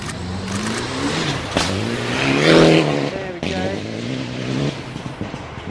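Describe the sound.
A rally car engine revs hard and rises in pitch as it accelerates through a bend, coming around the trees on a slippery course, loud, with a spectator talking over it.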